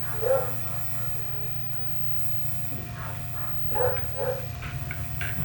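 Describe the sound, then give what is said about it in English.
A dog barks outside a few times, one short bark early and a quick pair later, over a steady low background rumble. “I think it's a dog.”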